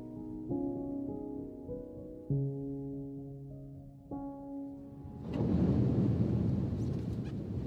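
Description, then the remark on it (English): A car travelling through the Lake District toward Cockermouth in pouring rain: its steady engine hum gives way to a loud, sustained rushing splash as it ploughs through a deep, torrential puddle, the spray roaring for the last few seconds. “That was the noise of going through a torrential puddle.”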